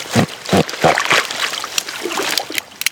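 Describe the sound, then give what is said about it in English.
Water sloshes and splashes as a team wades into chest-deep marsh water to pull out reeds, with three heavy surges early on followed by lighter trickling and dripping. “I join the team as they wade into chest-deep water and yank reeds out of the marsh and put bait on a wooden platform.”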